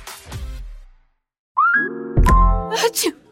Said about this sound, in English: that sneeze means you do not want to venture out into all that pollen